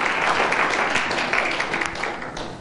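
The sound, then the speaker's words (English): A crowd applauding a team as they come down, with many hands clapping in a dense, steady wash of sound that stays fairly loud throughout and tapers slightly at the end. “I want to give the team a hand clap as they come on down.”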